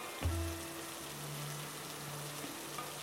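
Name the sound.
rain falling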